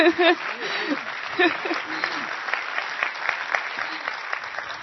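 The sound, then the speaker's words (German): A morning church service audience at the CityChurch claps steadily to welcome guest pastor Uwe Holmer, a dense patter of many hands for several seconds, while a voice speaks briefly over the start of the applause. “Wie ihr ja schon auf dem Flyer, ja, könnt ihr ruhig mal klatschen.”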